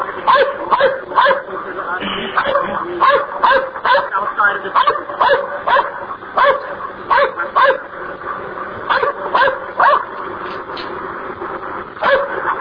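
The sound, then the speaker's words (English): A police dog barks repeatedly and insistently in sharp bursts throughout, while a man talks over the barking. “I don't want my dog get shot.”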